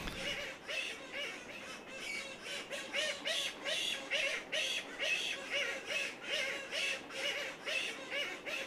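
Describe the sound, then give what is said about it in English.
A dense chorus of colony birds squawking and honking in rapid, repeated bursts as mates greet each other, loud, with many overlapping calls forming a noisy colony racket throughout. “If their mate is there, then they'll have a bit of a conversation. So there'll be a lot of squawking start up, and the colony will gradually come alive with noise.”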